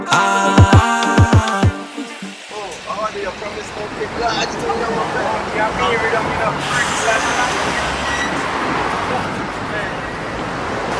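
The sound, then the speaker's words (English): A BMW F30 car passes on a busy street with a steady rush of road noise and murmuring voices, after a brief burst of tonal, music-like sounds at the start. “Yo, that's an F30 right there? Yeah, it's an F30, bro.”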